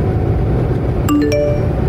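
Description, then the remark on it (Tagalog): A phone notification ding in a car on the road: two quick bright chime notes ringing out clearly over a steady low rumble of road or engine noise, with no talking. “Uy, mamaya na phone mo.”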